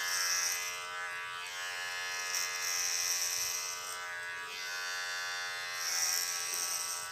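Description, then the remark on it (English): A steady mechanical buzz from electric hair clippers, driven by a vibrating motor with oscillating push-rod-like parts, runs throughout, with dense harmonic hum and a bright high whine that swells slightly in intensity a few times; no voices. “And this has got a really good mechanism in it. That it's sort of like a vibrating motor and a couple of oscillating.”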